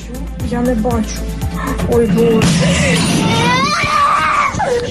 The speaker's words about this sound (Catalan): Un chiquitín rompe a llorar asustado por la explosión que acababa de escuchar al lado de su casa.